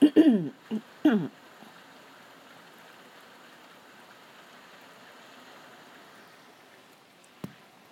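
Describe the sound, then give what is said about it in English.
Steady rain falls in an even, soft hiss that doesn't let up, with a few brief sharp sounds at the start and a single tap near the end. “I don't think I need to water my plants today, put it that way.”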